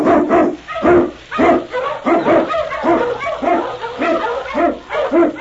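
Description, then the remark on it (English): A pack of husky sled dogs, led by the Eskimo lead dog King, barks excitedly and almost continuously as they are urged on through storm and snow in the Yukon, overlapping yips and barks coming in quick, loud bursts, with no one speaking. “King, the swiftest, strongest of Eskimo lead dogs, blazes the trail through storm and snow for Sergeant Preston as he meets the challenge of the Yukon.”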